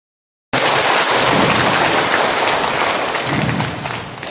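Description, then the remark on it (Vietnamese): A large audience bursts into loud, sustained applause after a brief silence, welcoming a lay Buddhist speaker on assisted chanting for the dying; the dense clapping holds steady for several seconds before easing slightly at the end. “Xin chúng ta vỗ một tràng pháo.”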